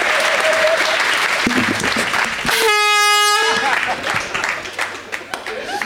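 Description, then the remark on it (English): A single loud air horn blast, about a second long with a bright harmonic stack, sounded to mark a matching answer in a quiz game, cuts through steady applause and cheering that continue before and after it. “Hit that air horn.”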